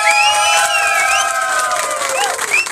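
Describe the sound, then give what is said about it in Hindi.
A crowd claps and cheers loudly, with whoops and high shouts rising over steady applause that carries through the whole moment without letting up, welcoming back Manjunath Prasad, former BBMP commissioner in Bangalore. “Welcome करते हैं तालियों के साथ।”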